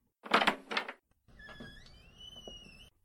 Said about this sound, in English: I'll open the door.